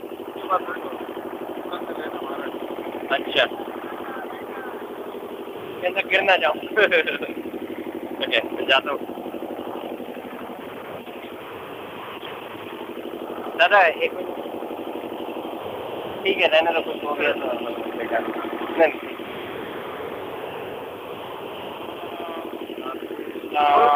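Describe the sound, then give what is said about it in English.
A boat engine drones steadily throughout as the boat carries a rickshaw with devotees in it during a parikrama, a low continuous hum with voices and brief bursts of sound over it, moderately loud. “There is devotees right in the rickshaw, and the rickshaw is on the boat.”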